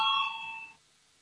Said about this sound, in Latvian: Lūdzu zvanu, balsosim par 106. deputātas Muižnieces priekšlikumu.